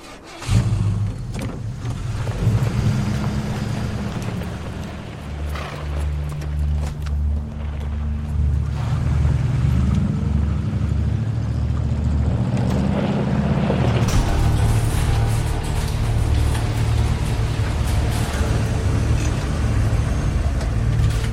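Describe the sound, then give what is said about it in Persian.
A vehicle engine rumbles steadily, a deep droning hum that grows slightly louder and fuller partway through, like a car driving along with no voices heard. “از ماشین پیاده شین و مراقب قدماتون باشه.”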